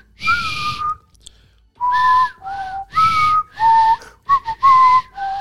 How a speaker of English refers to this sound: Breakfast Club whistle. Right. What's that? Breakfast Club whistle. You don't remember that one?